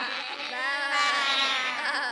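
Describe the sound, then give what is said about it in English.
A person imitates a sheep's bleat: one sustained, quavering nasal "baa" lasting about two seconds, held at a steady, fairly strong level with no other sounds around it. “Sheep. What does a sheep say?”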